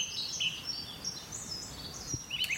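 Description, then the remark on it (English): A few thin, high calls of a wryneck, a gray bird larger than a sparrow, ring out over a soft outdoor hiss, brief plaintive notes spaced irregularly across a couple of seconds, fairly faint and with no voices. “It is not a marsh bird after all. It is a wryneck, a gray bird larger than a sparrow.”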